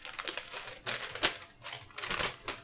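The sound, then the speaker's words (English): A paper list rustles and crinkles in a few uneven bursts, with sharp papery scratches between them and no talking. “He's got a list on paper, if you can't tell.”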